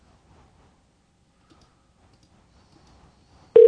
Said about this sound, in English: You don't hear that ringing sound? No.